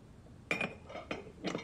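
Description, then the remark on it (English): Liquor being poured from a glass decanter into a glass at a bedroom vanity: four quiet glassy clinks and knocks, spaced unevenly over a second, the first with a brief bright ring. No talking. “She pours a glass of liquor from a decanter.”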